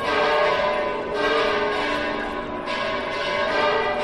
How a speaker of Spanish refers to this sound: Así repicaban las campanas del Monasterio de las Huelgas, epicentro de las celebraciones de esta mañana. Es el Día del Curpillos, antesala de las fiestas mayores de San Pedro y San Pablo, que tendrán lugar a finales de este mes de junio.